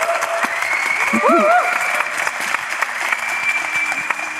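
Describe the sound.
An audience claps steadily for the organiser of the evening's event, a dense, even patter of applause at moderate loudness, with a brief voice or whoop rising above it partway through.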